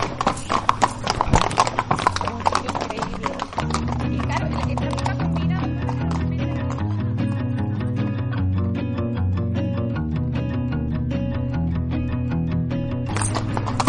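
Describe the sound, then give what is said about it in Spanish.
A horse's hooves clip-clop in a steady, rhythmic beat as it is ridden in laps back and forth, continuing throughout, with a sustained tonal background and faint voices underneath. “Dale, dale unas cuantas vueltas al caballo para allá y para acá.”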